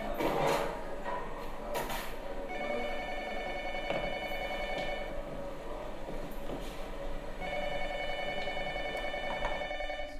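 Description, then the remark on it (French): A telephone in a film rings twice, each burst of shrill, trilling ringing lasting a couple of seconds with a pause between, over a steady low background rumble and some faint clatter. “Le téléphone était dans le film.”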